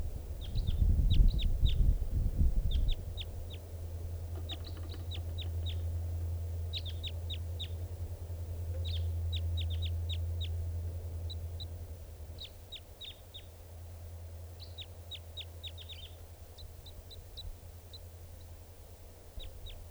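A bird sings in short clusters of high, thin chirps repeated throughout, over a steady low droning hum, with a brief rumbling thump at the start and no voices.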